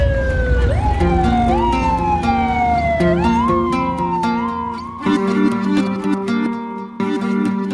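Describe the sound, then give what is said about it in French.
Several loud sirens wail, their pitches sweeping upward and holding in overlapping, rising-and-falling tones, as Hugo Chavez's presidential motorcade speeds through the streets of Caracas, Venezuela, in December 2001, with no voices heard. “Décembre 2001, le convoi présidentiel de Hugo Chavez file toute sirène hurlante dans les rues de Caracas.”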